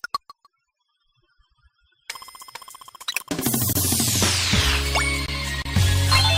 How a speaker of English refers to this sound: You heard that chime there, and what that means is perfect attempts coming up.